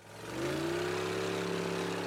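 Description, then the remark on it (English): A large speedboat filled with tourists races toward a reef area, its engine roaring loudly, the low droning pitch climbing briefly at the start and then holding steady as it races on without letup. No voices are heard. “They turned and saw a large speedboat filled with tourists racing toward the reef area.”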